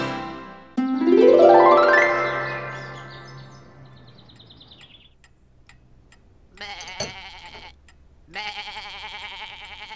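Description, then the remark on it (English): A goat in a garden lets out a loud, wavering bleat that rises in pitch, followed by quieter, shorter bleats and rustling. No speech is heard, just the animal calling. “There's a goat in our garden.”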